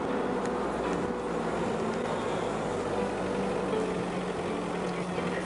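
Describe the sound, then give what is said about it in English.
A steady, continuous engine rumble with a low droning hum holds at an even level throughout, a construction truck idling while people load up on it to go to the river, with no speech over it. “ready to go to the river now, have our lunch, loading up on a construction truck.”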